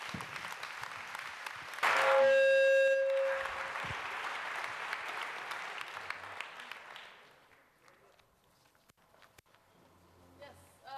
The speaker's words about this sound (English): Thank you very much. Please give them a warm round of applause and welcome our two speakers. Thank you so much.